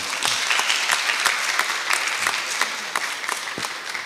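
Steady applause from an audience, a dense wash of many hands clapping with sharp individual claps standing out, holding an even loudness throughout with no voices.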